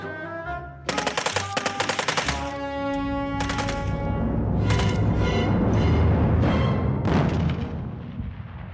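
Rapid bursts of heavy machine gun fire rattle loudly, then give way to a dense, sustained roar layered with droning tones, staying loud until near the end.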